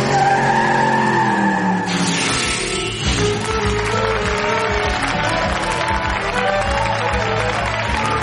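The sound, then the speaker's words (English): A Ferrari sports car's tyres squeal in a loud skid, then the engine roars steadily as the car pulls away, filling the whole stretch with dense, continuous noise. “Me in a Ferrari and Mr. Batley in a rather small, scratched bubble car”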